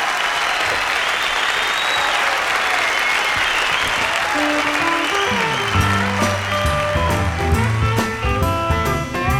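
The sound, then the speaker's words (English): Dense, steady audience applause fills the first half, a broad crackle of many clapping hands, then an instrumental music track fades in beneath it while the clapping carries on. “Ladies and gentlemen, let's have a fine hand for the bird.”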